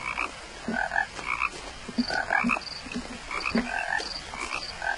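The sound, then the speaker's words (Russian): Sand frogs croaking in a dense, overlapping chorus of short, raspy calls repeating rapidly, with higher chirping notes mixed in over steady background noise. No one speaks. “Песочные лягухи.”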